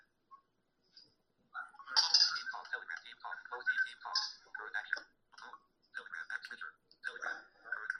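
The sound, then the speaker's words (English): A mobile phone rings with an incoming call from a mother, its bright electronic ringtone repeating a short melodic phrase in bursts, with brief gaps between the repeats. “My mom's calling me.”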